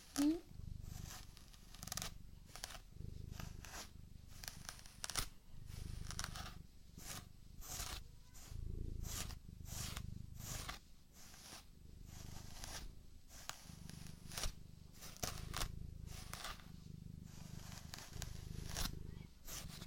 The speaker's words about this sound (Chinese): 就是要把毛毛都梳开的哦。咱们梳好毛，就奖励你吃猫条，好不好呀？